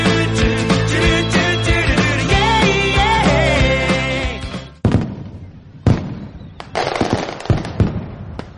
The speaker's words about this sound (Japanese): 去年のイオン岡崎の屋上も良かったけど、コムタウンも予想以上だな。 うん、まだ空が明るいうちの花火の大きな音だけでもうウキウキだね。